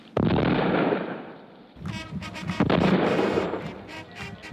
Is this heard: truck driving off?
no